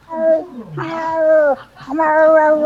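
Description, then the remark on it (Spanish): A person imitates a cat in heat with three long, wavering yowls, loud, each rising and bending in pitch before trailing off. “Era un gato en celo.”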